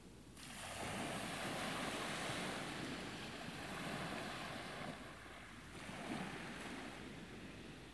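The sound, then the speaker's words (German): Ocean waves rush steadily onto a shore, a broad continuous wash of surf that swells and recedes slightly, with a fresh surge near the end. No voices. “Du wirst jetzt vom Rauschen der Wellen, von allem, was dich tief in deinem Inneren belastet hat, befreit.”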